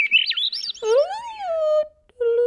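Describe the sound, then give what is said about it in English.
A Swainson's thrush sings a clear, flute-like song of quick high whistled notes, then a lower sliding tone and a held whistle after a brief pause, prominent with no talking. “They have flute-like sounds. And you hear them in the deep woods.”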